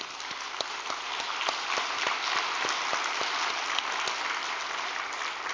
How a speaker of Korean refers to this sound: 이번에도 영성 아카데미 부부가 많이 탄생했습니다. 박수 한번 쳐줍시다.